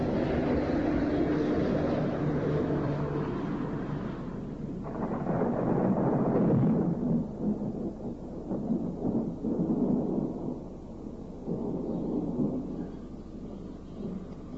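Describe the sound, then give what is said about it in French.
Deep, rolling thunder from a thunderstorm rumbles continuously, swelling into a louder crash midway before churning on in heavy, low waves, with no voices present. “Alors si ce soir, en sortant, vous entendez un grondement dans la nuit, il s'agira très certainement d'un orage.”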